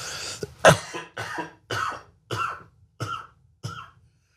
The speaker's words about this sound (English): Uh-oh, it has begun. Oh, no. Yeah, cough in that direction.